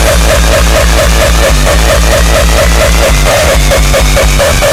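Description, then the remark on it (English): A loud, heavily distorted electronic beat pulses in a fast, steady rhythm, its booming low thumps smeared with harsh, fuzzy, crackling noise across the whole range. No voices are heard. “More distortion.”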